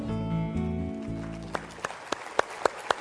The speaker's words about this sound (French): Est-ce qu'on peut applaudir ensemble?